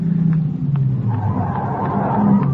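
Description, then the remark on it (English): A car flagged down on a road pulls up: its engine rumbles, tires crunch and there is a brief skid-like squeal as it rolls in and comes to a halt; no voices. “After my head clears, I make it to the road and flag down a car.”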